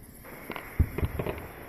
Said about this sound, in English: Hey, there's the fireworks finale.